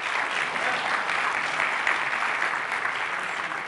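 An audience applauds a winner of a training prize drawing, a steady, dense wash of many hands clapping at a fairly even loudness for a few seconds, with no clear talking over it.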